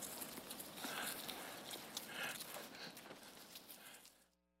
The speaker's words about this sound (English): Sheep ran away from me. They are afraid of strangers.